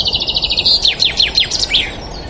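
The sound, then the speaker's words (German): A common chaffinch sings one clear phrase in early spring, as the first sunbeams shine through still-bare branches: a quick run of repeated high notes speeding into descending chirps and ending in a brief flourish, with faint background hiss. “Das ist jetzt der Buchfink.”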